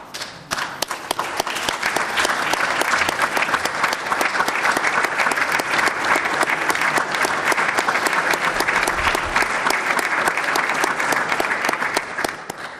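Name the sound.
applause in parliament chamber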